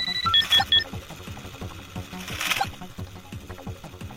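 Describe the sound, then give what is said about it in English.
A clock's hourly time announcement at 12 o'clock: three quick, high electronic beeps near the start, sounding over a busy background of rhythmic clicking and clattering. “It's 12 o'clock. There's your time announcement.”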